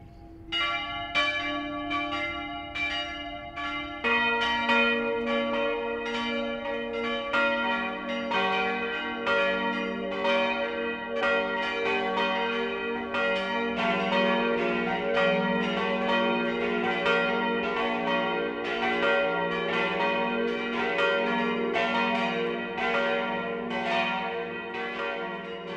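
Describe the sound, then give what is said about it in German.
Several bells of the Catholic parish church Herz Jesu in Schwandorf, Upper Palatinate, ring the 12 o'clock midday peal together, their overlapping strikes forming a rich, shimmering wash of tones; a deeper bell joins a few seconds in, and the ringing stays loud throughout with no talking. “Das Mittagsläuten kommt heute von der katholischen Pfarrkirche Herz Jesu im oberpfälzischen Schwandorf.”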